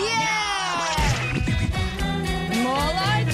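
Cat meows strung together into a sung melody, a continuous run of pitched mews rising and falling over a musical backing, loud.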